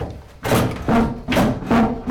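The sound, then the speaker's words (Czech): Old flour mill machinery, just started by releasing its brake, runs with a steady, rhythmic wooden clatter as flour is sifted through a bolting sieve into a chest, heavy knocks repeating roughly every half second alongside a low rumbling hum, loud. “vy už slyšíte mlýnské zvuky. Teď je to takzvané odbrždění a to samozřejmě zažijí i návštěvníci, kteří sem vstoupí.”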